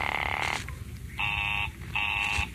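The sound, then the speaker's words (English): A telephone busy signal from a call to an office number: three steady, buzzing electronic tones, each about half a second long, separated by short silent gaps in an even on-off rhythm, fairly loud, with no voices. “Oh, it's busy again. Operator, the line is busy.”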